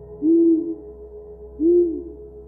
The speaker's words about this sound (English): In fact, I stayed until 11:15. I didn't know how it was possible, but again, I heard the owl.